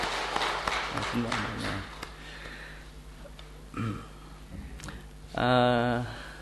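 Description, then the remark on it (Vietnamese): A church audience applauds to welcome two visiting friends, a short burst of scattered clapping that quickly fades away, followed by quiet background noise and then a man starting to speak. “Dạ, xin hội thánh cho một tràng pháo tay chào thăm hai thân hữu chúng ta.”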